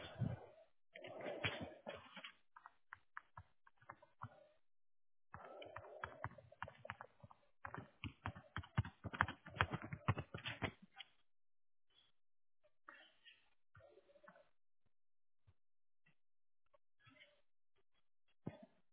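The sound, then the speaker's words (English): Rapid keyboard typing over a phone line: dense bursts of clicks and taps for several seconds, then slower, scattered keystrokes trailing off, moderately loud. “Because I heard a little typing.”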